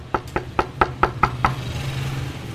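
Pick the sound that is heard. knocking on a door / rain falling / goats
knocking on a door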